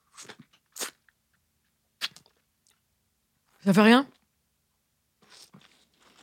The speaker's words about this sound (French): Croque dans le citron, vas-y